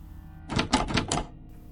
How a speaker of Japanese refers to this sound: 玄関のドアノブがガチャガチャと音を立て始めた。